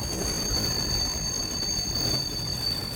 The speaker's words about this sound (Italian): Sferraglia il treno, il macchinista tira il freno.